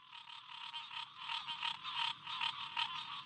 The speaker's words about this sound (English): along a muddy path flanked by pockets of chorusing green tree frogs. The scene here pretty closely resembles what things would have looked like during the rice-growing era, minus the rice.